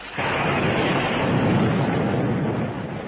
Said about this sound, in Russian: Тут она почувствовала, что господин директор, обняв ее за плечи, увлекает куда-то, а шум дождя и грохот грома становится тише.